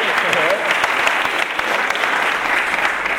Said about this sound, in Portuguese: Quem aplaudiu o samba aqui? Kim e o Alceu!